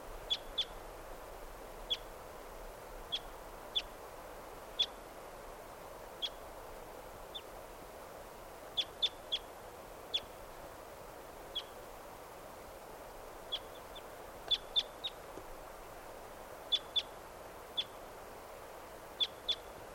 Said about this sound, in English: There they go. Well, there are three, yeah, just two birds. Yep. 558, here's that same wild bird.